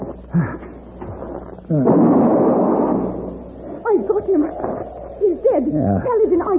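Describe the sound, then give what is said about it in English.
A single rifle shot bursts out sharply and rolls off in a long, rumbling echo, with men's voices talking before it and again once it fades. “That rifle shot will bring the rest of them down on us.”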